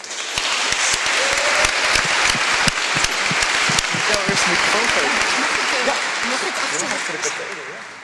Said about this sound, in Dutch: Nou, het belooft een mooi programma te worden, dus daarom zou ik zeggen, dit was het voor mij, maar laten we dan nu alvast een heel groot applaus geven.